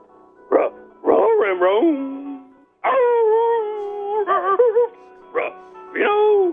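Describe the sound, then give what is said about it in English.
A caller's dog in Buffalo barks and yowls in several loud bursts, some short and sharp, others drawn out into wavering, howl-like cries, with brief pauses between them. “Paul in Buffalo's dog. What's up, dog?”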